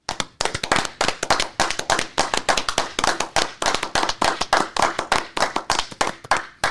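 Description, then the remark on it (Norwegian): A small group claps steadily for several seconds, the sharp hand claps overlapping into brisk applause with no talking. “Det jo faktisk sånn at det veldig populært å ta en applaus for disse folka, så vi kan gjøre det og avslutte med det.”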